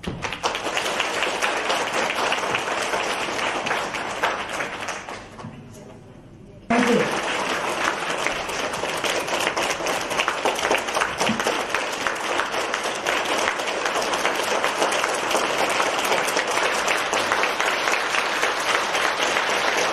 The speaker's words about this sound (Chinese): 那么一会儿我们以热烈的掌声欢迎卢台长为我们今天开示，我们要感恩卢台长，谢谢大家。